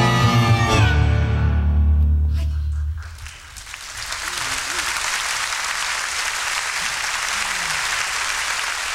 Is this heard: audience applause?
yes